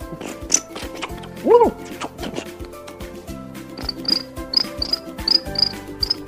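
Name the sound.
crickets chirping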